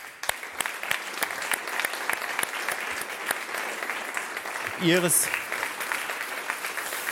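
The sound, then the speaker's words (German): An audience applauds steadily as the jury chair steps onto the stage, many hands clapping in a dense, even patter that holds for the whole stretch, with a brief voiced cry rising above it near the end. “Herzlichen Applaus.”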